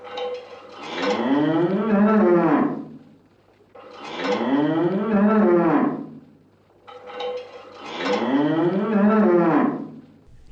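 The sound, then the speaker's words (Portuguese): A person imitates a cow, giving three long, drawn-out moos in a row with short pauses between them, loud, with no talking. “É a vaca!”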